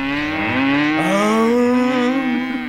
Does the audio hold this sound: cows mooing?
yes